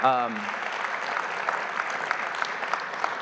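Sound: audience clapping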